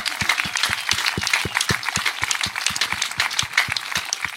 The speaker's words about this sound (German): Und ich bitte um einen ganz, ganz großen Applaus, ja, mal für ihn.